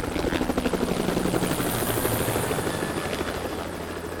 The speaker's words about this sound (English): Another helicopter flew over. It dumped water on the trees behind the houses.